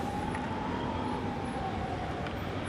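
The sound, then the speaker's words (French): Steady city traffic rumble fills the scene, with a faint, sustained emergency siren tone drifting in above the roar of cars. “Il fallait maintenant faire avec la présence militaire, le calme dans les transports en commun, la peur dans les regards et le son des sirènes qui ne résonnera plus jamais pareil.”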